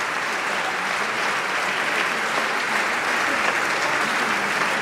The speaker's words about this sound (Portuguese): Referência agora a Francisco Sá Carneiro. E aqui também o Chega se levanta para aplaudir. Mais uma vez, só PCP e Bloco de Esquerda não aplaudem esta referência a Francisco Sá Carneiro.